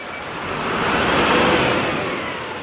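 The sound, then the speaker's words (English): Steady roar of city traffic at a busy bus station in Tel Aviv, Israel, with a vehicle engine swelling loudly as it passes, then easing off. No voices stand out. “It all starts here at the Tel Aviv bus station.”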